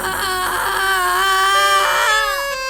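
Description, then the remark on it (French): A child screams and wails loudly and without pause from the back seat of a 4L car, a shrill, high-pitched cry that wavers and rises in pitch over a few seconds, with no talking. “Soudain de la banquette arrière jaillit un hurlement d'enfer.”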